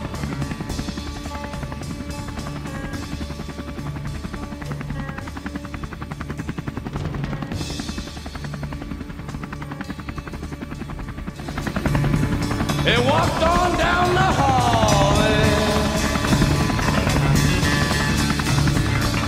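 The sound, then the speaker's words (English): Marine One, the presidential helicopter, runs its engine and rotors steadily with a low, throbbing drone as President Trump and Melania Trump board it, headed to Joint Base Andrews. It grows louder about two-thirds through as a high turbine whine rises and wavers above the roar. “President Trump and Melania Trump now boarding Marine One.”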